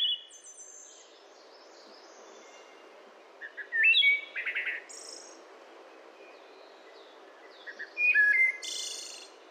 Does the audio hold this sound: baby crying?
no